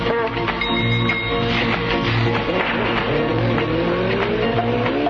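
A car engine sound effect introducing a radio road report: the engine roars and revs loudly while tires squeal and skid throughout, a dense, continuous burst of motor noise with a rising screech toward the end.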